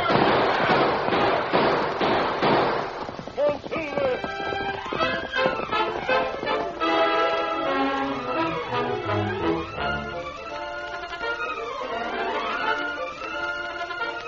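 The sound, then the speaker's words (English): A rapid volley of sharp gunshots as riders open fire chasing the masked man on a white horse in a Lone Ranger story cracks out for about three seconds, then gives way to loud, sweeping orchestral music with rising and falling string lines. “After him, boys. We've got to catch that hombre on the white horse. Open fire.”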